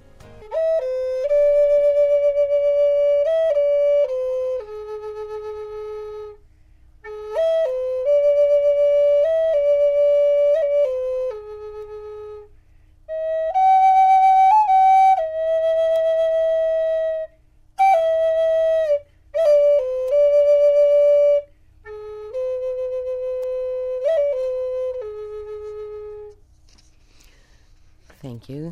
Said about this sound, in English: And what were you playing? What flute are you playing now?